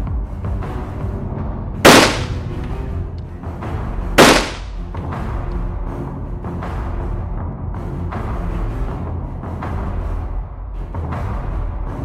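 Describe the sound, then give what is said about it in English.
Two loud shotgun blasts, fired by a father and his son at each other on the main street of Omega by the Ford dealer, ring out a couple of seconds apart, each with a short echoing tail, over a steady low rumble of background noise; no one speaks. “There was an exchange of gunfire between the parties.”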